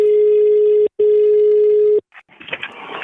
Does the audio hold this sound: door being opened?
no